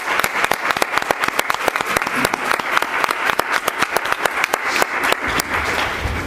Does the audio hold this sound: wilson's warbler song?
no